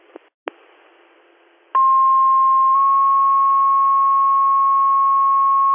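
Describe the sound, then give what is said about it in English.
Over a crackly radio channel, a couple of clicks give way to a loud, steady dispatch paging tone for an ambulance call in Hornell; it shifts slightly in pitch after about a second and holds for several seconds before cutting off. “We're good on tones.”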